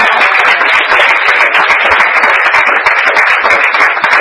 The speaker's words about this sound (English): So that is where I'll stop, and now you can clap for real.